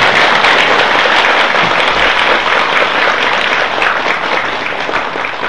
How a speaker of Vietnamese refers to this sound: Trước khi vào buổi giảng, xin toàn thể đạo tràng chúng ta cho một tràng vỗ tay thật lớn thật dài cho chúng ta.